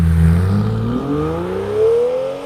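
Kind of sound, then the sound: vehicle, sports car engine revving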